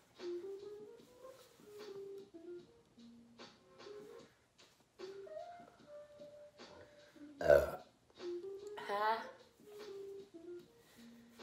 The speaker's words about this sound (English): This makes me bloated really easily, and it makes me burp a ton. My tummy kind of hurts.